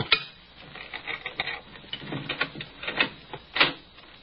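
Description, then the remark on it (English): Thin glass being cut from a window in a Sherlock Holmes drama: a run of irregular scratchy scrapes and small sharp clicks, rising and falling in loudness over a few seconds, with no voices. “Cutting off the thin glass.”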